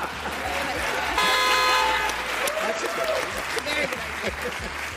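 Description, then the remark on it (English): A single car horn honk blares for about a second, loud and steady, over a bed of crowd noise and applause-like clatter. “New rule, now that I have to honk my horn every time a red light turns green because drivers are looking at their phones, someone must invent a traffic light that has a honk built into it when it turns green.”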